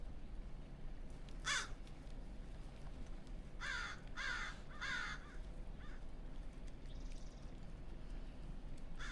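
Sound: crows cawing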